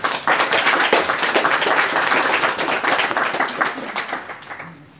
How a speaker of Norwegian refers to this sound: Så gi deg en god applaus.